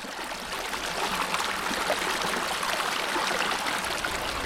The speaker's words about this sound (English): I'm stood by a series of stepping stones over the River Hodder at Whitewell.